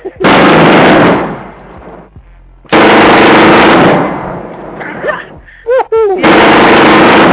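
Uzi submachine gun fire in three long, loud bursts of rapid automatic shots. Short vocal sounds break up the pause before the final burst.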